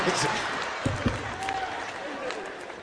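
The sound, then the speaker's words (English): An audience claps in a steady, dense wash of applause lasting a few seconds, with a couple of low thumps near the middle and a faint murmur of crowd voices underneath. “Some of them is clapping right now.”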